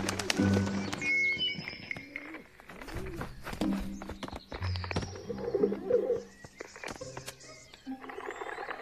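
pigeon cooing

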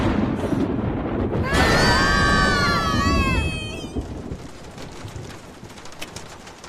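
rain

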